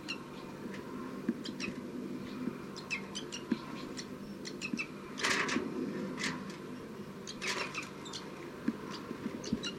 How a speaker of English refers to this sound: Recording. This is bird 302 begging from 5-9.